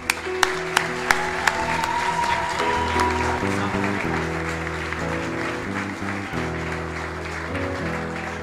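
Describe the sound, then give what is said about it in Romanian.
A church audience applauds sisters of the audience on their birthday, a dense, steady wash of clapping that carries on for several seconds, with a few sharper claps early on and sustained musical tones humming underneath. “Haideți să le aplaudăm.”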